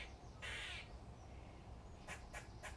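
Squirrel alarm calls ring out from a big fir tree across a patio in the morning: one long, harsh rasping burst, then after a pause three short scolding calls in quick succession, with soft outdoor background noise.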